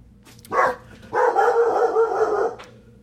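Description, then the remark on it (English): A dog, Riley, gives a single sharp bark, then a longer drawn-out bark that trails off after about a second, loud with no one talking. “That's my dog barking.”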